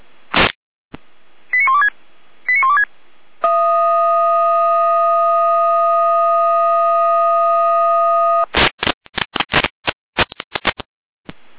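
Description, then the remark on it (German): Electronic fire brigade alerting tones calling out the volunteer fire brigades FF Birkenhügel and Blankenberg, requested by FF Pottiga, for several trees on the road near Pottiga, Spornberg: a short burst and two chirping tone pairs, then a steady multi-tone chord held for about five seconds, followed by a rapid string of sharp beeping pulses. “Angelina, mit Alarmierung.”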